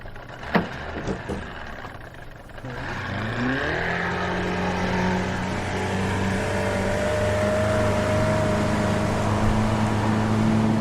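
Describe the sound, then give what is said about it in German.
A few sharp clicks, then the engine of Roy's teak motorboat turns over and catches as it is readied, its pitch rising briefly before settling into a steady, loud idle that runs to the end. “Ich starre wieder auf Johns rechte Hand, während er Roys Teak-Motorboot bereit macht.”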